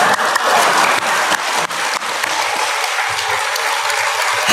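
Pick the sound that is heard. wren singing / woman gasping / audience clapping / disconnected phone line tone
audience clapping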